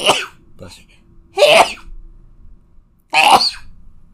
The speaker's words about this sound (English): Bless you. Thank you.